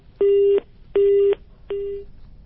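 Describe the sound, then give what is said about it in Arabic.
A telephone busy tone after a caller's line dropped during a phone-in call: three steady beeps at an even pace, each roughly a third of a second with short gaps, loud and clear with no voices. “لعلك تعاود الاتصال أخ عزان، كأن الهاتف بيني وبينك انقطع”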